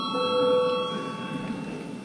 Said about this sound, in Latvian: Lūdzu zvanu. Balsosim par minēto lēmumu projektu. Lūdzu balsošanas režīmu.